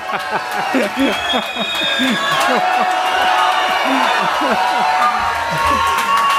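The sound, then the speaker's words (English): A standing audience cheers and applauds steadily throughout as a teacher is introduced, many voices shouting and whooping over a dense wash of clapping, loud and unbroken from start to finish. “Come on now, let's hear it now. Yahweh, make them cheer.”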